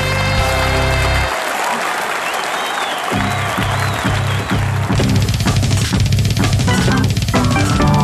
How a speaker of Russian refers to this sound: Аплодисменты.